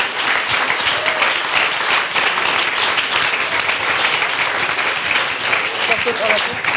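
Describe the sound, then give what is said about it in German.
Sustained applause from a crowd for a group of people who were just named and thanked, a dense steady wash of many hands clapping at an even loudness for several seconds, with a few faint voices mixed in underneath. “Für die einen herzlichen Applaus.”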